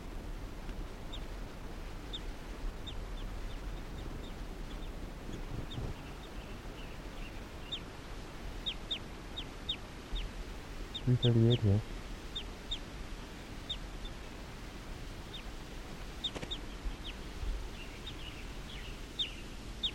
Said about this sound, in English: Recording, this is bird 338 calling softly in response to a wild bird.